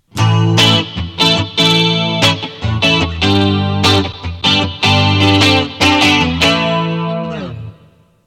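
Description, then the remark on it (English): A clean electric guitar played through an effects unit on its classic clean preset, setting number two, with a shimmering chorus-like effect, plays a series of chords and short riffs, strummed steadily and loudly, then rings out and fades near the end. No one speaks. “This is their classic clean.”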